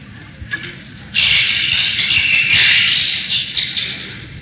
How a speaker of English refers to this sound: let's see what we have here. We got a bunch of birds.